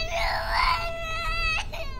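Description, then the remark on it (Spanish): A baby cries in a long, high-pitched wail that rises and holds, then breaks into a shorter, strained sob, over a low background rumble. “Sigue, llora.”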